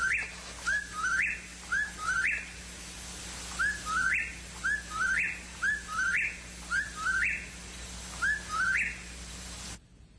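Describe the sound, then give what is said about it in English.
A whippoorwill calls over and over in a steady rhythm, each clear three-part whistled phrase rising sharply at the end, fairly loud against a faint background hum, with no talking. “This is what a whippoorwill sounds like.”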